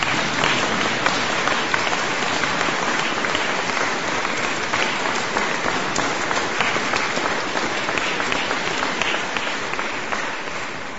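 Steady, dense applause from an audience, many hands clapping at once in a continuous wash of sound that holds at an even loudness for the whole stretch with no talking over it.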